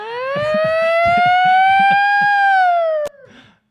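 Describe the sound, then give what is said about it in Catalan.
A single loud alarm siren wail, apparently imitated by a voice, standing for the alarm police receive about a robbery in Madrid in March 2003, slowly rising in pitch for about three seconds, then dropping and cutting off abruptly, with faint low murmuring underneath. “La policia rep l'avís de l'alarma i acudeix ràpid”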